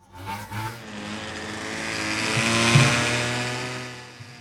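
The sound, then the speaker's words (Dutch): A small two-stroke moped engine buzzes steadily, its rasping whine swelling louder as it approaches from a distance, with no one talking over it. “De brommer van de week.”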